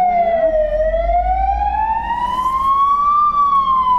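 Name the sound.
alarm siren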